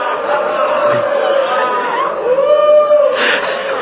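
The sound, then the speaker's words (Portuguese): A large crowd boos in a sustained, loud roar of many voices, with a steady drone throughout and a swell of intensity toward the end. “Receba essa vaia para a glória dos céus.”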